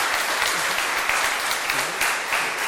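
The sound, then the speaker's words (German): Steady applause from a church audience as a certificate and flowers are presented after a blessing, a dense, continuous patter of many hands clapping at an even loudness for a few seconds, with faint voices underneath. “Eine Urkunde gibt es und Blumen und Applaus der Gemeinde.”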